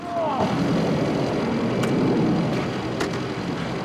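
A motorbike carrying a passenger on the back roars steadily as it pulls up outside an airport, with a brief rising screech near the start and a couple of sharp clicks over the rumble.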